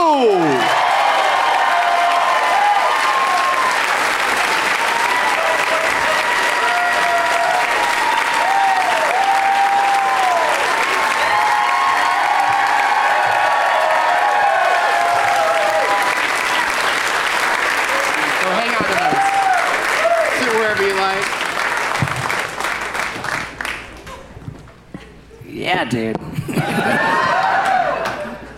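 A crowd applauds loudly and steadily for nearly half a minute, with whoops and cheers rising over the clapping before it briefly dips and swells again near the end.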